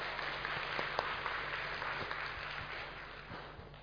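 A crowd applauds steadily for a few seconds, a dense wash of many hands clapping at moderate volume that tapers off slightly toward the end, with no voices over it.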